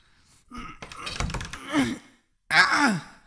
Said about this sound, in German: Mit dieser Eisenstange hier sollte es gehen. Geht mal zur Seite. Damit kann ich die Tür aufstemmen.